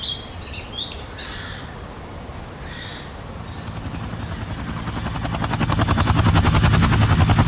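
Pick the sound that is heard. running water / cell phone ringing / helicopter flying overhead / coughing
helicopter flying overhead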